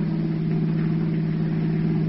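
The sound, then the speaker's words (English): The engine of a brand new car purrs while it is being driven, a steady, low droning hum, holding an even pitch and loudness from start to finish, with no voices. “Listen to that motor purr, Peggy.”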